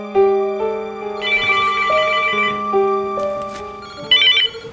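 A telephone ringtone at a home in California plays a melodic electronic tune, its sustained tones stepping between pitches, fairly loud, with no voices, and a brighter chirp near the end.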